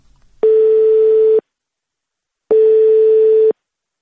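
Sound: telephone call tone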